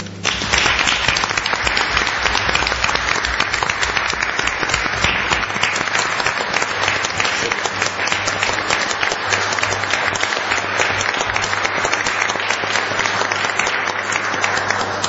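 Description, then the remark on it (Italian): Sustained applause at a town council meeting, proposed by a councillor as a tribute, dense overlapping claps holding steady and fairly loud for about fifteen seconds with no voices standing out. “spero che tutti voi condividiate queste mie parole, e l'unica cosa che posso proporre è un applauso.”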